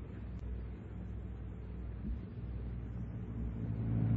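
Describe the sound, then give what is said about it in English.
A car engine idles steadily in a garage while a man works on the car, a low continuous rumble with a throbbing hum that swells slightly toward the end, with no voices. “It was the car in the garage.”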